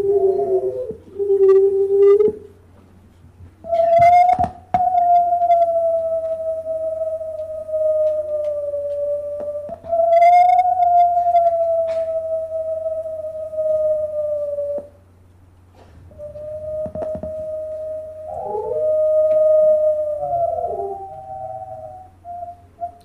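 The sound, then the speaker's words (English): Long, drawn-out animal howls hold steady mid-pitched tones for several seconds at a time. Voices overlap and trade off, some breaking abruptly, over a low constant hum. “As you can hear here, there's more going on back and forth between individuals cutting off in strange places in the howl”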